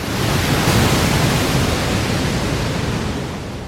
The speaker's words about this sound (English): Then Yellowstone Falls. Below the lake, the river drops through a series of waterfalls down into Yellowstone Canyon.